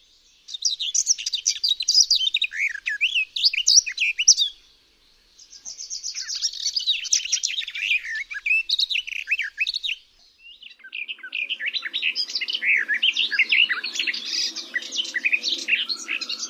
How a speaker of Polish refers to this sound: I znów gajówki. W śpiewie gajówki oba rodzaje dźwięków chaotycznie przeplatają się ze sobą.